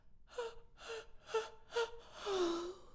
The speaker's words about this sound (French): … bâille un grand coup.